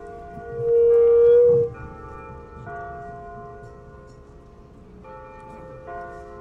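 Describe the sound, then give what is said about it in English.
A bright bell-like chime from a church bell rings out clearly, its tone lingering, followed by a few softer strikes that hum and fade with long sustained overtones. No one speaks. “I'm going to wait for that beautiful chime to it is nice. Do its thing.”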